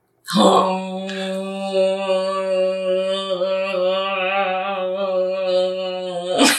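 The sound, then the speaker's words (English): A person loudly imitates a spoiler horn blast, holding a single steady, buzzy low note for about six seconds, with a slight waver and no other sounds. “Okay, spoiler horn time.”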